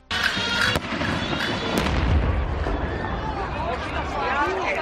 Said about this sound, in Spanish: El carro de los cohetes. Efectivamente, un artefacto del carro de cohetes que participaba de la comitiva explosionaba de camino a la ermita.